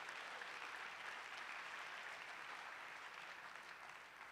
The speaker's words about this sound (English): Clap your hands, please, to the Lord.